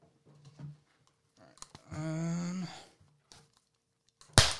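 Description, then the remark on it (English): A single sharp, loud hand clap, swatting at a fly in someone's face, cracks out at the very end after a stretch of faint clicks and rustles and a brief droning tone. “You got that clap back. Sorry, there was a fly in my face.”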